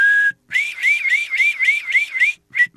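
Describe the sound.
Someone imitates a car alarm with a whistled, high-pitched tone, as an example of vocal sound effects for animation: a brief steady note, then a loud, rapid rising-and-falling warble repeating about eight times, ending with a short chirp.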